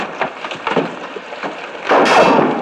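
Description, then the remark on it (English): A sniper's rifle shot near a camp slams into a wooden door with a loud, sudden crack and a splintering burst, following a stretch of scattered clattering and thumps. “That rumor almost came through the door!”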